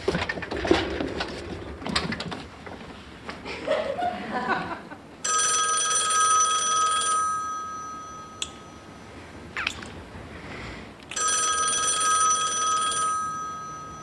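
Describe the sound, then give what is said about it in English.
A telephone bell rings twice in two long, bright bursts with a pause between, following some muffled movement and background noise at the start. “Aren't you gonna answer the phone? Is that the phone?”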